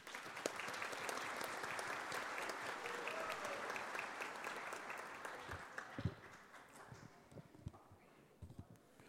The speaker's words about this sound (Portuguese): Salva de palmas.